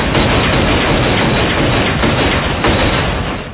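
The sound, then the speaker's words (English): Loud, sustained burst of gunshots fired from a gun in rapid succession, the shots running together into a dense, rough crackle that holds steady for several seconds before easing slightly at the end. No talking. “Can I have the gun now, please?”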